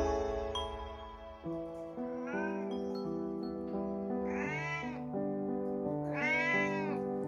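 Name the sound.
cat meowing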